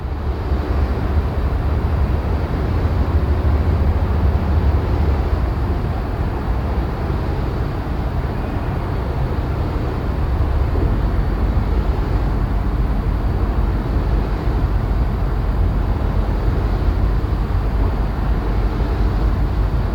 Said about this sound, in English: Around 10 meters from a wind turbine.